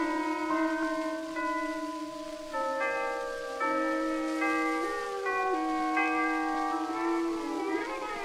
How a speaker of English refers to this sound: Hold on, boys. The chimes are going to play.